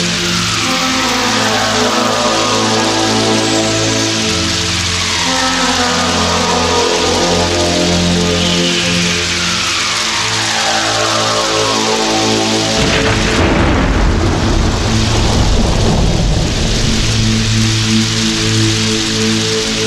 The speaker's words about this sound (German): Doch in dieser Nacht entlädt sich ein Gewitter über der Gegend. Wann immer Blitze vom Himmel zucken, peitschen sie grelles Licht durch die kleinen Plexiglasfenster in die Zellen hinein.